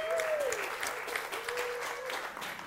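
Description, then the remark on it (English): A crowd applauds Clevedon at Gardeners' Question Time, a dense, even patter of many hands clapping at a consistent loudness throughout, with a faint whistle or tonal sound briefly at the start. “Yes, round of applause for Clevedon.”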